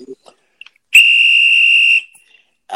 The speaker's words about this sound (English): you're going to know that's a guy in ECW that blows a whistle